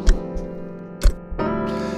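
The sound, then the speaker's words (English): A clock ticks twice, about a second apart, each tick a sharp click over a steady, sustained musical drone that swells slightly near the end. “The clock ticks.”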